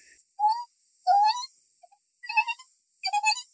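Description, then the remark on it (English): Six baby Nanoxauruses chirping and squawking excitedly as they run out of a cave, in four quick bursts of high, rising calls, fairly loud, with brief pauses between them and no voices. “6 baby Nanoxauruses just ran out of the cave. They're chirping up and down excitedly.”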